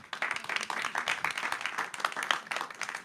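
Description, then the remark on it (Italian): A studio audience applauds steadily in studio 5 of the RSI Palazzo della Radio in Besso during a live open-day broadcast, many hands clapping in a dense, continuous patter that stays fairly even in loudness throughout, heard alone without any talking. “Oggi giornata a porte aperte. Fatevi sentire con un applauso.”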